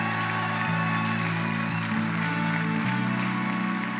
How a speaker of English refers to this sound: There's two more hands right there. Church, can we give a lot of hand? Many, many people making that decision. No, no, no, no. Don't give God a golf clap.